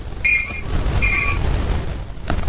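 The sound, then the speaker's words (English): An Amtrak train rumbles with a steady, heavy low roar throughout, broken by two short high-pitched squealing tones early on and a sharp click near the end. “You can hear the train.”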